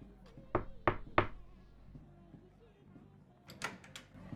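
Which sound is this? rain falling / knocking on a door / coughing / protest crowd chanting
knocking on a door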